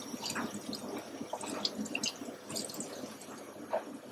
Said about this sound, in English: And as for the cap, it's a bit of a nuisance to clean up because every single one of these electrodes needs to be cleaned thoroughly under running water with a brush like this.